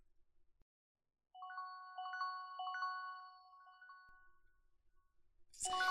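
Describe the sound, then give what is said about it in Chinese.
A phone ringtone plays a short electronic melody of clear, steady tones for about three seconds. It stops, followed by quiet, then a brief rustling thump at the very end. “这个时候谁会来电话？”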